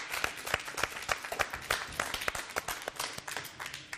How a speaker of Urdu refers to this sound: ان تینوں ٹیموں کی حوصلہ افزائی کیجیے گا زوردار تالیوں کے ذریعے.